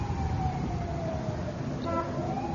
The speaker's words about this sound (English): Well, there's always a siren. Always a tragedy somewhere.